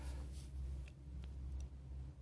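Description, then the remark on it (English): A steady, deep rumble of heavy trucks rolling past at a truck stop, with a few faint ticks and clicks over the low droning traffic noise and no voices. “You can hear the trucks whizzing by, right?”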